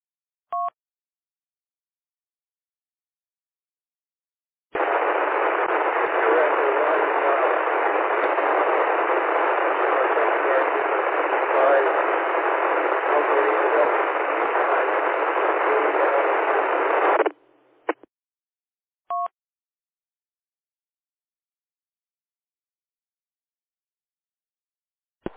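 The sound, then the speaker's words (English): A weak, badly broken-up radio transmission from a calling station, lost in a steady wash of loud, hissing static for about twelve seconds, bracketed by brief electronic beeps before and after. “Yeah, sorry old man, you're completely into the fried bacon there in the background.”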